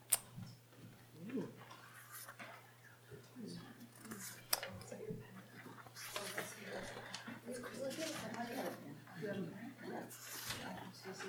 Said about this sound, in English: And as you're doing that, I'll be passing out pieces of paper to everybody.